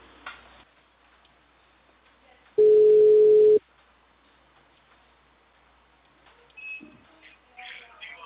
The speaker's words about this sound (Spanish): mi teléfono está sonando bajito.